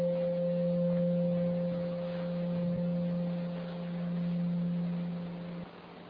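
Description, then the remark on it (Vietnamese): A meditation bell hums in a low, steady tone with a fainter higher overtone, gently pulsing as it sustains for several seconds before cutting off. No one speaks. “Cái tiếng chuông nó cũng giúp mình thư giãn nếu mình biết cách nghe.”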